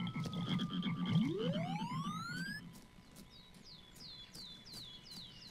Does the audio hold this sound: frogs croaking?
yes